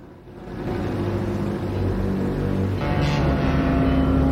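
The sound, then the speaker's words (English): A water taxi's boat engine chugs steadily, a continuous low rumbling drone that swells slightly louder toward the end, with faint water wash beneath it, as the taxi boat pulls away from a dock on a bay at night. “The taxi chugs off into the night.”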